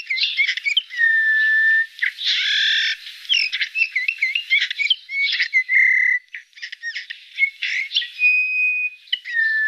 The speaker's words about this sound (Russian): Однако этих веселых красногрудых птиц мы видим все реже. И записать голос снегиря тоже редкость.